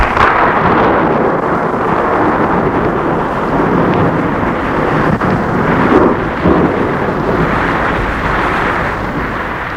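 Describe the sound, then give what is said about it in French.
Deep, continuous rolling thunder from a storm, loud, rumbling steadily throughout with swelling surges and no voices, heard at a castle. “Un jour plus tard, au château où l'on entend toujours l'orage gronder, les éclairs éclairent la pièce.”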